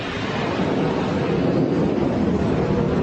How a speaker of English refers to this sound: It's been a while since I've had the airplanes this close.